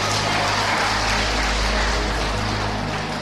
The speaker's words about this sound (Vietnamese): Cho nó một tràng pháo tay con.